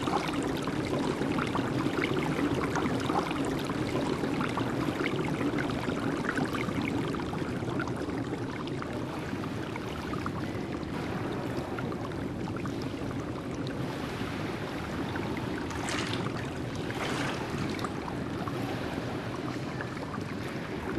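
Water sloshes and swirls steadily as a whole body is immersed in a full bath of warm water, with a few brighter splashes near the end and no voices.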